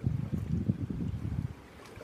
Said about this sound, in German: Schließe hierfür jetzt deine Augen und lausche dem Geräusch des Ozeans, den ich hier gerade live für dich aufnehme, von den Malediven. Du hörst also gerade den Indischen Ozean.